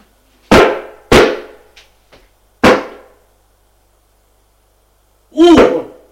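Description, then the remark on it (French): Three heavy, booming knocks pound on a locked bedroom door at night, two in quick succession and a third after a pause, made by a furious man trying to get in. A few seconds later comes a short, loud shout. “Cogne à la porte.”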